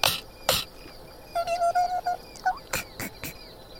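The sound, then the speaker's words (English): A bee buzzes in a run of short, pulsing bursts, fairly loud, with a few sharp clicks before and after and no one talking. “The bee that stung your tongue, he's...”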